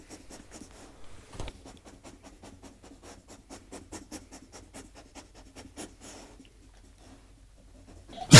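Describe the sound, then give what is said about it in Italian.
A dog rapidly scrapes its paws against a hard surface, producing a quick rhythmic series of rasping scratches, moderately loud, fading out near the end. “In città è più facile sentire questo raspamento sull'asfalto, che ha un suono diverso, ma lo stesso significato.”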